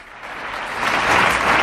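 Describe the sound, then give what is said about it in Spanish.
A family claps steadily from their terrace outdoors, the applause dense and rapid, swelling slightly louder toward the end, with no voices standing out. “Celebramos con esta familia, con la familia de Irene, claro, que aplaude desde ¡bravo! Su terraza.”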